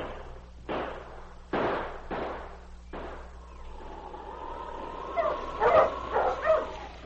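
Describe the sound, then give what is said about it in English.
Husky sled dogs, including one called King, are urged on and bark in a quick series of sharp, loud bursts, then break into excited higher-pitched yips and whines over a steady low rumble. “On King! On, you huskies!”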